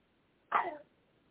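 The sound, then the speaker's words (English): A single small cough from a young boy, one short abrupt burst heard faintly in the background with no talking around it. “So we heard the little cough in the background”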